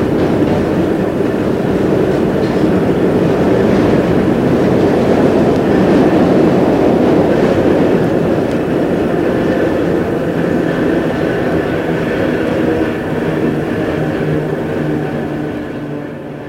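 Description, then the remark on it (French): A subway train rumbles steadily through a tunnel, a loud continuous roar with faint rhythmic clatter of wheels on rails, easing slightly toward the end. “Après un long parcours, ils sortent du métro.”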